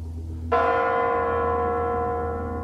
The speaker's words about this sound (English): As the bells in the Kremlin announce the new millennium in an even newer Russia.